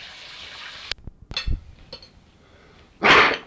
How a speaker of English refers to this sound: That's me with a big cough.